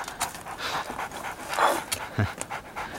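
A dog pants steadily, with quick breathy huffs in an uneven rhythm and a brief whimper-like sound partway through. No one speaks.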